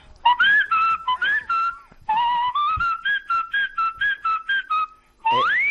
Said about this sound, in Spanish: Es un homenaje autóctono. Mi silbido es autóctono.